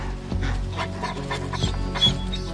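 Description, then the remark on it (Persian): A dog pants heavily, quick breathy bursts repeating over a couple of seconds, with a steady low rumble underneath and no one speaking. “فقط اون سگو از من دور نگه دار.”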